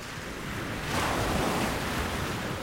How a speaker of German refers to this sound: Die Brandung hat das Treibholz aufgeschichtet zu Scheiterhaufen. Gischtfetzen schießen auf die Dünen zu, Salzwasserdunst verklebt die Brillengläser, Sand peitscht gegen die Haut.